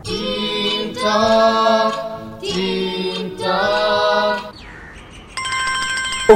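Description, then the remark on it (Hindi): A mobile phone ringtone plays a loud, bright, chirpy electronic melody in repeating phrases. It cuts out briefly before a different tonal beeping pattern starts near the end. “मैं तो इस फोन से बड़ा परेशान हो चुका हूँ”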